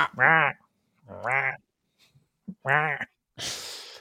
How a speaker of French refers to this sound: On va mettre le petit bruit de... Point, point, petit bruit de... Ouais, du corbeau dans les animés japonais.